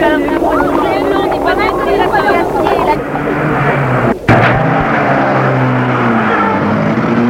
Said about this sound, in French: Et il sent qu'une voiture roule.